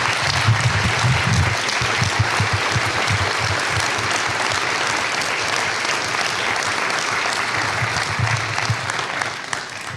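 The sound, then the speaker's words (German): A large audience applauds steadily and loudly for the full length, a dense wash of clapping with no pauses and no voices standing out. “wie hier eben schon im Applaus vielleicht untergegangen”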